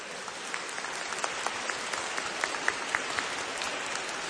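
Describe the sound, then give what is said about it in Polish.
Steady applause from an audience greeting the choir Mały chór wielkich serc from Łódź, dense clapping with a few sharper claps standing out, sustained at a moderate level throughout with no voices. “A wy za te oklaski podziękujcie nam pięknym śpiewem.”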